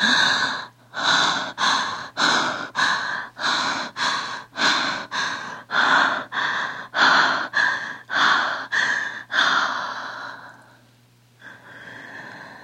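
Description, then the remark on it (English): A performer demonstrates fast breathing: rapid, loud, breathy panting, about fifteen quick, evenly spaced breaths in ten seconds, then one longer exhale trailing into quieter breathing, with no talking. “And then there's the fast breathing.”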